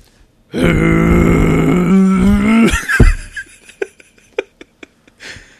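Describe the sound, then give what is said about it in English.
A voice imitates a bulldozer with a loud, sustained low rumbling growl lasting about two seconds, then breaks off into a burst and a string of short clicks and smacks. “Pick a vehicle. Let me hear a bulldozer.”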